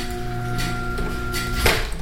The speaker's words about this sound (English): That was the garage door.